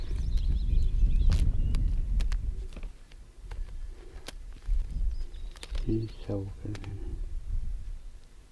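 Horse hooves clip-clop in a loose, uneven series of sharp knocks over a low rumbling background, with a short tonal vocal sound partway through.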